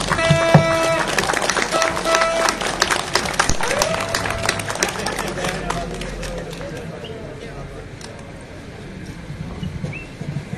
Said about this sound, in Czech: S pozdravem, podepsána Kateřina Konečná. Zatleskejme jí.